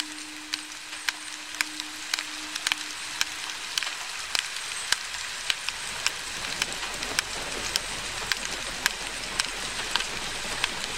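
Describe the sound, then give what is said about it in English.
Steady, dense patter of rain striking surfaces, with sharp individual drops ticking irregularly over a continuous hiss; a faint low hum fades out early on. No voices. From a 2016 performance of Hildegard Westerkamp's Talking Rain. “You can hear this exploration of space happening in Hildegard Westerkamp's Talking Rain, in this performance, which was recorded in 2016.”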